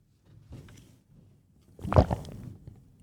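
Someone swallows water in a few wet, gurgling gulps: a soft one early on, then a louder, throaty gulp followed by a quieter swallow. No talking.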